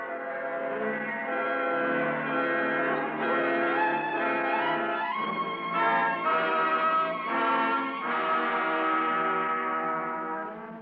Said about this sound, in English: But Abby loved the voice of the bells. Christchurch bell, she said, made a lordly sound. The New North chime was out of tune. King's Chapel rang out deep and slow, as if it had to tell a story.